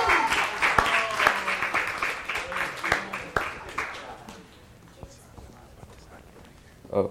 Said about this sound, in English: if we could give a round of applause.